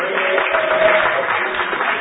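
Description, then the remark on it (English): An audience applauds, a dense, steady wash of many hands clapping that holds at an even, fairly loud level throughout the two seconds, with no voices over it. “Give him a clap of”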